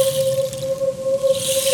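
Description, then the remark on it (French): Heavy rain pours down in a steady, dense hiss, accompanied by a constant low humming tone that holds unchanged throughout. No voices are present. “La pluie tomba de plus en plus fort”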